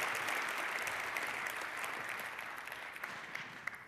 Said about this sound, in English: And if not, then a big round of applause for a great talk. Thank you very much.